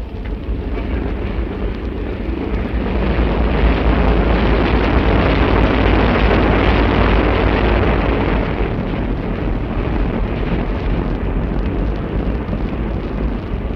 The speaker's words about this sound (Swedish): det här dånet som nu börjar att höras allt tydligare kommer från maskinrummet, alltså där dieselmaskinerna arbetar